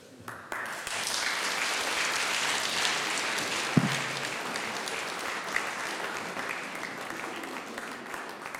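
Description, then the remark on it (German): Sustained audience applause, a dense wash of many hands clapping at a steady level for several seconds, with a brief low thump partway through. “Danke, dass ihr geklatscht habt.”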